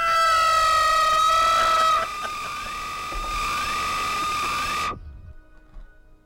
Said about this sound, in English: It just so happened that instead of any banter, it was silent except for blaring out a high-pitched tone and what sounded like sirens.